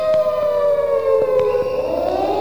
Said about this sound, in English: As we come to sound the sirens.